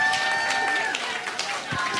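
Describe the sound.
An audience applauds with dense, steady clapping that holds an even loudness throughout, mixed with a faint murmur of crowd voices.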